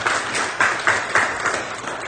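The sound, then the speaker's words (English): An audience claps their hands in praise to God, a dense, steady wash of applause with a few sharper swells of louder clapping running through it. “If God's been good to you, let's just take a moment just to give him a hand clap of praise.”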